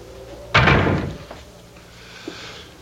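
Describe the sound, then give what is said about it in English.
A door at the bottom of the stairs shuts with a single loud, heavy slam, its thud ringing out briefly before fading into a quiet hum. “Come upstairs now and close the door at the bottom.”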